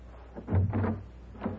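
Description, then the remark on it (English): A door opens with a low wooden creak and thump, followed a moment later by a softer knock, with no voices present. “Open the door.”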